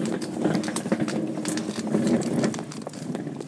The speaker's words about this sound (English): There's another drip of water. It sounds like someone having a wee.